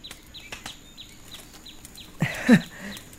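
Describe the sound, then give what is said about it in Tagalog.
A single sheep bleat, the firstborn of a flock being presented as an offering, rises out of a quiet outdoor scene, brief and loud, with small birds chirping repeatedly in the background throughout. “Panginoon, narito po ang panganay sa aking mga tupa.”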